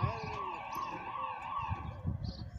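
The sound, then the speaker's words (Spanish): A police patrol car siren wails steadily with a wavering, high-pitched tone, fairly loud, over a low rumble of engine noise and thumps. “Son una patrulla.”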